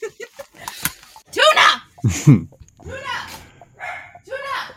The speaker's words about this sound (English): And with that, can you hold on one second because my dog is barking. Hold on.